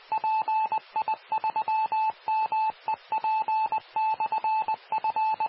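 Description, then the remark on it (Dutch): A radio repeater sends its identification as a steady, high-pitched tone keyed on and off in a rapid Morse-like pattern of short and long beeps, clear and continuous, with no voices. “Oké, de repeater heeft even voorrang.”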